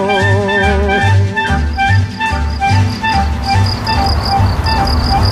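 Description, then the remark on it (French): Crickets chirp in a steady, rhythmic pulse at Fernand's place, layered over a dense, continuous buzzing drone with regular low throbbing beats underneath. Fairly loud, with no voices. “Donc ça c'est chez Fernand, côté Grillon.”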